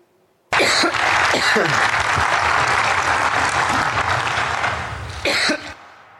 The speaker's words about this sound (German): Ich glaube, wir sind bei Huster 5.